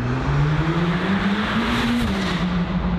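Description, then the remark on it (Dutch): A Mercedes-AMG GT Black Series sports car, tuned by Absolute Motors, roars loudly as it pulls away on the road, its pitch climbing steadily as it accelerates, with a dense rumbling exhaust note throughout and no voices. “Of rijden met een Mercedes-AMG GT Black Series van tuner Absolute Motors.”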